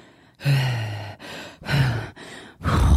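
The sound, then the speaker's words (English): A person breathes heavily and loudly, with about five long, raspy inhales and exhales in a slow rhythm, some carrying a low, throaty voiced edge. “Is that gonna create a really difficult editing job for you? Like creepy breathing?”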